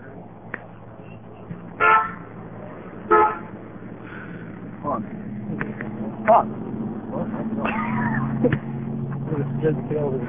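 A car horn honks in a few short, separate toots spaced a second or more apart, over a steady low engine rumble and faint background murmur, as a car slowly backs out.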